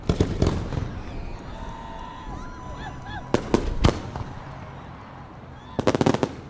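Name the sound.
fireworks exploding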